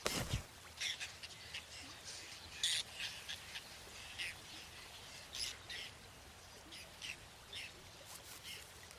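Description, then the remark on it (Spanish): Marsh terns call repeatedly over temporary ponds, joining the feeding on the water life, in short, harsh, high-pitched squawks coming in irregular bursts over a steady low background hiss, with no talking. “Los fumareles también se suman a la gran comilona, a la vida bullente del agua temporal.”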